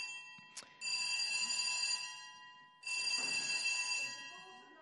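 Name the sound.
fire alarm sounding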